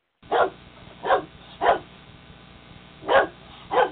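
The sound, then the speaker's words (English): A 15-year-old dog barks five times, fairly loud, in two clusters: three gruff woofs, a pause of over a second, then two more. No one speaks. “I love this old dog. He's 15.”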